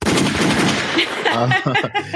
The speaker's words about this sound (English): You know, gunshots for you.